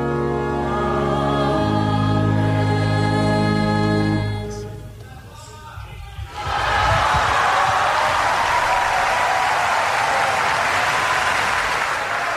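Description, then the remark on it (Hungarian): Sustained, harmonious tones fade into a brief lull, then a large audience breaks into loud, dense applause greeting the Holy Father's catechesis, broadcast on Mária Rádió; the applause continues steadily until the end. “Kedves Mária Rádió hallgatók, a szokott módon tapsviharral köszöntik a Szent Atya mai katekézisét.”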